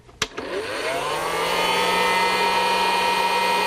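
A popcorn machine is plugged in, switched on and left to warm up before any popcorn goes in. A sharp click, then a motor whirs up to speed and settles into a steady, loud hum with a bright, buzzing whine.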